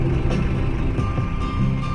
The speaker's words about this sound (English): Step, if you will, into the car in which I'm being driven around the city, and back to the days of the Vietnam War.